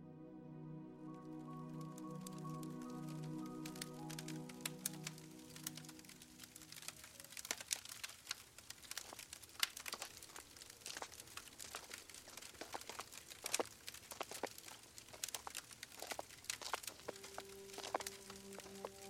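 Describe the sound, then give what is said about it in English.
A fire crackles inside a quiet dance hall with irregular sharp pops and snaps, and soft footsteps patter on the cobblestone street outside beneath it. A low sustained tone fades out in the first few seconds. “Only a crackling fire and the patter of footsteps on the cobblestone street outside can be heard.”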